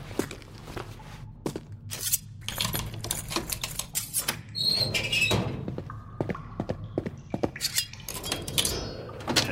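Someone picks a cell lock with a lockpick made from a hairpin with a pocket knife: a steady run of small metallic clicks, scrapes and rattles, with a few brief ringing metal tones midway and no talking.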